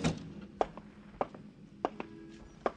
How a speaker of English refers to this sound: Then hear the door open for it, to let it all in again.